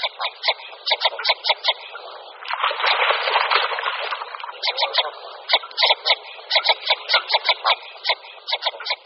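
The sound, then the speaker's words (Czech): A northern shoveler duck gives deep, single-syllable calls, repeated in quick rhythmic runs of short pulses, with a denser, louder burst in the middle. No one speaks. “Dovolím si tvrdit, že jednoslabiční, hluboký hlas této zajímavé kachny měl možnost zaslechnout jen málo kdo.”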